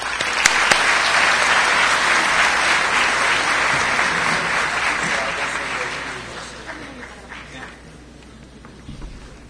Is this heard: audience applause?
yes